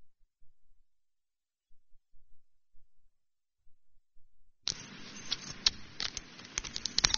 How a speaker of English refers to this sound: And I will try to outshout the rain. I usually don't have a problem with that anyways.